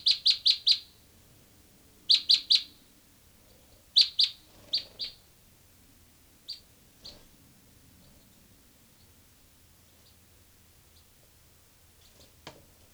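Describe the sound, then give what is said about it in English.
Bird 385 gives bright, high-pitched chirps in quick bursts of three or four, loud at first, then scattered softer single calls fading over a quiet background. “Recording here, bird 385.”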